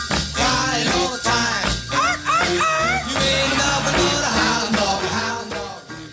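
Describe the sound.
An upbeat band plays loudly throughout while a singer's voice slides and yelps, tossing in short barking 'arf arf' imitations of a dog between sung phrases, in a goofy 1955 recording of a song about a hound dog.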